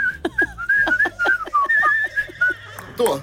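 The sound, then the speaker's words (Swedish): Someone whistles a cheerful Christmas melody, the wavering notes steady and continuous over a few seconds, with faint voice sounds beneath. “Men jag har lärt mig en sak igår, att om man vill ha hatiska blickar på stan, då ska man glatt gå runt och vissla julmusik.”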